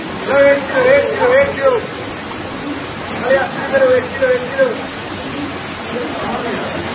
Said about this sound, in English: Rain. A familiar occurrence in many parts of the world. But this is rain at its most extreme. The monsoon.